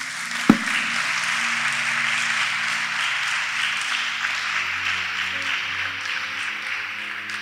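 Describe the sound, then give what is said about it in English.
An audience claps for Jesus together in sustained, dense applause that holds steady for several seconds, with a sharp thump near the start and a low hum underneath. “Clap for Jesus.”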